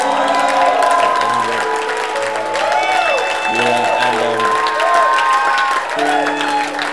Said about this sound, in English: Those at the back, your clap is very weak. I think we can clap louder.